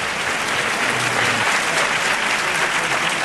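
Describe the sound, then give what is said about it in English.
Sustained audience applause at the close of a debate, given for both sides, a dense steady wash of many hands clapping at an even loudness throughout, with no voices rising above it. “the applause you hear was actually for both sides in this debate”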